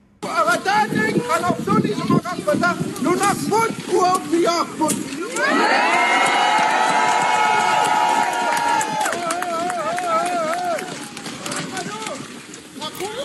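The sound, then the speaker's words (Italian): A dense crowd of Greenlanders shouting and chanting together at a protest in the square of Nuuk, Greenland, loud and sustained, crying "Greenland belongs to Greenlanders", with a stretch of unified drawn-out chanting in the middle before scattered shouts return. “Questi suoni che giungono dalle piazze, anzi dalla piazza di Nuuk.”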